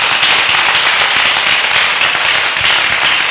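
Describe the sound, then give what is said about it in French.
An audience claps for God in a loud, dense burst of applause, countless overlapping hand claps forming a steady crackling roar that holds for the whole few seconds, with no voices. “Alléluia, applaudis pour Dieu.”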